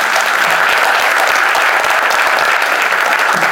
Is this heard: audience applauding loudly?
yes